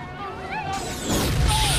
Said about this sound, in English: A blast knocks a handful of people to the ground. Explosions rack the abandoned homes behind them, momentarily lighting up the night.